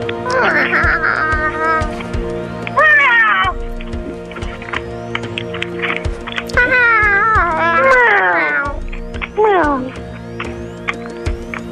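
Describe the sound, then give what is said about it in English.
A cat meows repeatedly, several drawn-out, pitch-bending cries in irregular bursts, loud, over a steady humming, droning background. “Is there a cat on the show?”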